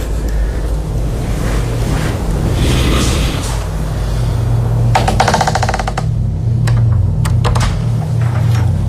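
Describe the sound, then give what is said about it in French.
A door creaks once in a slow, ratcheting groan at 2 a.m. during a night round while everyone sleeps, over a steady low hum and hiss, followed by a few faint clicks; no one speaks. “Tout le monde dort, les portes grincent.”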